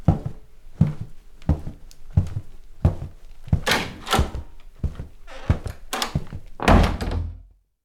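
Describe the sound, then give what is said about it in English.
A back door is opened and shut, with a series of solid thumps and rattles over several seconds, ending in a louder, heavier closing bang. No one speaks. “Let's go out the back door.”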